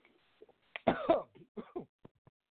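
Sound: coughing fit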